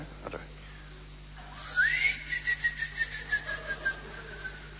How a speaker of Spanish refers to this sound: Está el insecto. ¿Te parece que es eso? Sí. Recién cuando hacíamos silencio. Silbar como de boyero. Sí. Es un grillo es.